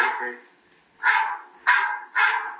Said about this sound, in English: Phone call barking in my ears.